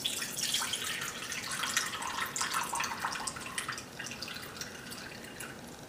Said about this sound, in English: Our bowl. And what I'm going to do is I'm just going to pour in our juice.